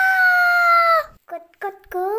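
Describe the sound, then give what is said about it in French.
A rooster crows a long, loud, drawn-out note that dips slightly at the end, followed by a few shorter broken calls, with no talking. “Cocorico, il chante aussi bien que moi.”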